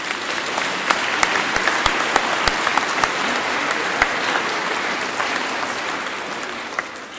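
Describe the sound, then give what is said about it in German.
An audience applauds to thank the St. Michael kindergarten for helping with the songs, a dense wash of many hands clapping at an even, fairly loud level, with a few sharper individual claps popping out, tapering slightly at the end. “Darf ich nochmal klatschen?”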